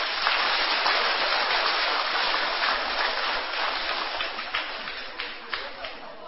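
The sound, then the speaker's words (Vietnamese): Sustained applause from a large crowd of children, a dense steady wash of clapping that holds for several seconds, then thins toward the end as a few separate claps stand out. “Nếu cháu nào thấy rằng là mình được nâng đỡ bởi sự chăm sóc của các thầy, các sư cô, bởi các tình nguyện viên, thì dành một tràng vỗ tay thật to.”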